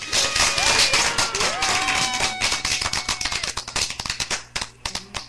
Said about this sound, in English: Hold on, man. Let me give you the clap, brother. Hold on, 1 second.